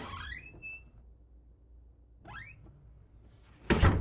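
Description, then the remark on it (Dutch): A door creaks open with a rising squeak, a second hinge creak follows a moment later, and then the door shuts with a loud thud as Cinderella goes out with her picnic basket on her arm. No one speaks. “Als ze klaar is met strijken, hangt Assepoester haar picknickmand aan haar arm en gaat de deur uit.”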